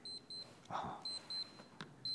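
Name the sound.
alarm clock beeping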